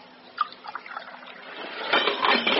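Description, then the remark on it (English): Coffee is poured into a cup aboard a boat, starting with a few light splashes and building into a steady, louder stream of liquid toward the end. No one speaks. “Is that coffee? Yes. I'll pour you some.”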